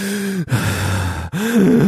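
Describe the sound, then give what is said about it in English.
A voice imitates the heavy, gasping breathing of a police officer returning to his car after detaining someone, as picked up by dash cam audio: three loud, rasping breaths in quick succession, each voiced and strained, separated by brief pauses. “He returns to the car and you hear him breathing like this.”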